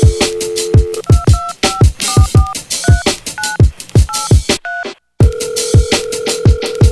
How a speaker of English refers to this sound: People calling me, asking me for money, man. The only thing I'ma give you motherfuckers is the dial tone.